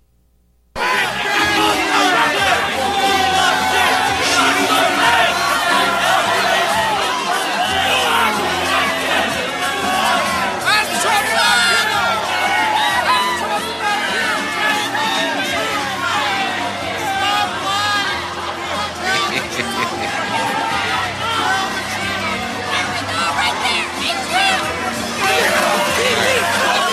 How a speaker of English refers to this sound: Okay. Not that you can understand a word, but you can hear the crowd, and you know, it's kind of funny.